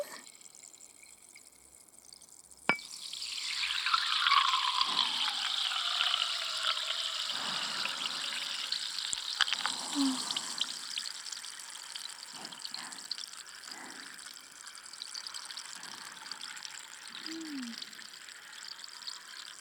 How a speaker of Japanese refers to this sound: 炭酸の細かい泡が頭の中で弾けるみたいで、ゾクゾクしちゃうよな。